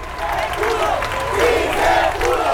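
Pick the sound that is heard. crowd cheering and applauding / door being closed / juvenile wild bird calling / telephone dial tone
crowd cheering and applauding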